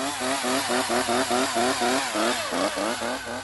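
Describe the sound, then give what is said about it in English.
A chainsaw runs loud, its motor whining and revving in quick, repeated surges for a few seconds with no voices. “Now imagine some of the piranhas are carrying chainsaws.”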